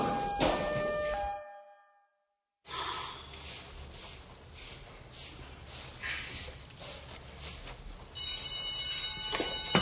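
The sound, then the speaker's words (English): An alarm rings with steady, piercing tones at the start, cuts out briefly, then returns loud over a rushing, busy background near the end. “The alarm.”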